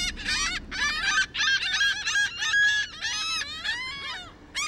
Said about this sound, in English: Not to mention, while driving a car, you can't just relax and tune in to the birds all around you.